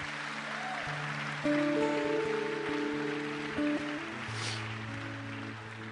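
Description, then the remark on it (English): A crowd claps steadily for God in a dense, continuous patter while sustained keyboard chords hold and shift underneath, with no one speaking. “Amen, you can give God a clap.”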